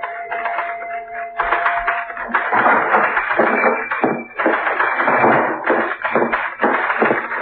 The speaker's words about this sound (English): I'm beginning to feel jealous of that typewriter. What are you writing now?